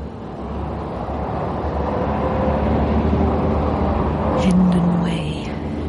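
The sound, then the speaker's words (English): A steady, continuous low rumble of a car driving along a road in London toward the motorway, even in loudness throughout, with a brief higher-pitched whine near the end. “Soon be on the motorway, and it's all plain sailing.”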